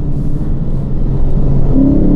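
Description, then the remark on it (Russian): A 5-liter V8 car engine revs with a deep, loud rumble, the pitch climbing steadily past 3000 rpm as it accelerates, recorded while driving the moving car. “это именно этот двигатель, я прошу вас не сомневаться, именно этот двигатель я записывал специально во время езды, во время своей езды.”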